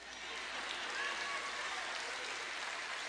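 An audience claps together in a steady, dense patter that holds evenly for about three seconds, sounding fairly soft, like polite applause.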